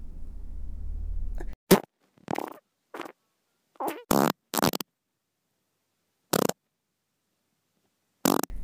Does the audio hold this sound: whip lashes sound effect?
no